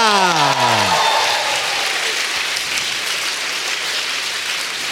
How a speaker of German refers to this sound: Wenn ihr meint, Softwareentwickler, dann Applaus bitte jetzt.